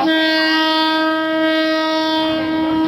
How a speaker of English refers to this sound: In a neighborhood north of Bangkok, a passenger train is about to roll right through a densely crowded street market.